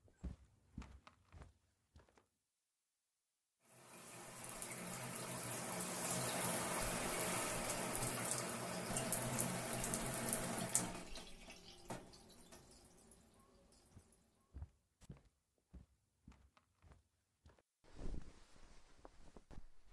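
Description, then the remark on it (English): A hot shower runs with a steady, broad hiss of spraying water for several seconds, then cuts off, leaving scattered drips and small knocks before a brief faint hiss near the end. “First a hot shower.”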